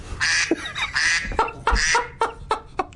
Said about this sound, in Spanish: ¿Un pato? Sí. Un ánade real. Maravilloso.